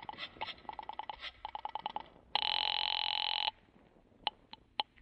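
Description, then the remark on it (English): A rapid patter of dialing clicks on a call to the guard at the gate gives way to a loud, steady ringing tone on the telephone line lasting about a second, followed by a few sharp clicks as the call connects; no one speaks. “You wait another half minute and then pick up the phone and call the guard at the gate.”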